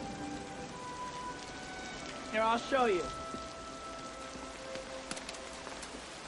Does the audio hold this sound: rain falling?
yes